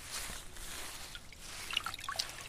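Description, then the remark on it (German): A fountain in a castle courtyard splashes and trickles steadily, with bright little drips and plops scattered over a continuous watery hiss, at a fairly low level with no voices, while trees rustle in the wind. “Hier vom Schlosshof aus, wo ein Brunnen plätschert und die Bäume im Wind rauschen.”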